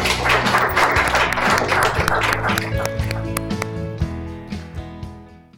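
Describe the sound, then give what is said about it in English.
An audience claps in a dense, steady burst of applause for about three seconds, then the clapping thins out into scattered claps and fades toward the end. “I think we should clap.”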